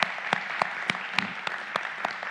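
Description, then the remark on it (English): A crowd claps steadily as a clap offering to the Lord, a dense wash of hand claps with a few sharper claps standing out, lasting a couple of seconds with no voices. “So let's give the Lord a clap offering.”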